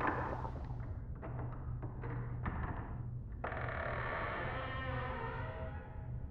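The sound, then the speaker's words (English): A few sharp metallic clicks and rattles of a house's door handle, then a long, drawn-out creak as the door slowly swings open, all over a low steady background hum. “Okay, that seems like it's a door handle.”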